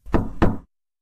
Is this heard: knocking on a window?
yes